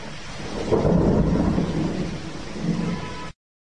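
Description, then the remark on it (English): A monsoon rainstorm in Bangladesh pours down in a steady hiss while deep thunder rumbles and swells twice, loud, with no voices, before cutting off abruptly. “Bangladesh, a country of farms and fields and huge wide rivers and vast spreading fertile deltas and lots of monsoon rain.”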